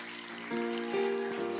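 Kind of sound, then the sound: crowd, round of applause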